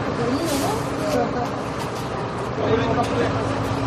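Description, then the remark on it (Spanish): A crowd of about 40 people chatters steadily as they step off a bus in front of the doors of a 4-star hotel in Almería, accompanied by Red Cross staff, many overlapping voices over the low rumble of an idling engine, continuous throughout. “Es el sonido de un grupo de 40 personas bajando del autobús frente a las puertas de un hotel de 4 estrellas en Almería.”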